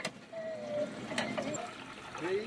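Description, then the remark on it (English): Water splashes and trickles as people draw and pour drinking water at a well fed by an underground freshwater store, with occasional mechanical clanks and faint voices murmuring in the background. “Now people are getting water from this well here.”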